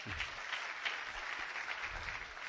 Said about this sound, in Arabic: صفقوا لي يا إخوان جزاك خير.